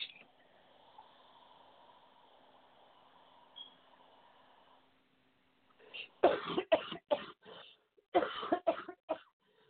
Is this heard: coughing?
yes